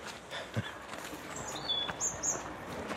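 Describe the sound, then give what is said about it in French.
A few high, thin bird chirps and whistles drift in, fairly faint, over the steady outdoor rumble of tracked excavators removing mud from a riverbed, with one low thump early on. “On entend les oiseaux aussi.”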